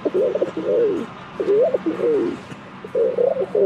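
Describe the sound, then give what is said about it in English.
A person imitates a rock pigeon, making soft, throaty cooing phrases in repeated bursts with short pauses, fairly loud, with no speech. “I do bird call. The Hawks' schedule just dropped today, so I'm going to do their opponents as birds. The rock pigeon.”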